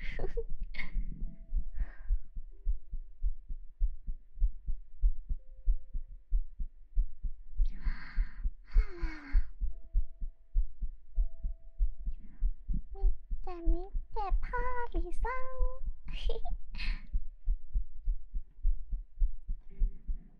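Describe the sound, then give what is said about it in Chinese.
A steady, muffled heartbeat thumps continuously, like through a stethoscope, while brief high-pitched voice sounds come and go over it. “你的心跳变快是什么东西啊？”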